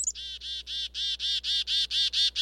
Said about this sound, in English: When there's danger nearby, black-capped chickadees make a distinctive alarm call. In fact, chickadee alarm calls are understood by dozens of other species, including birds and birders.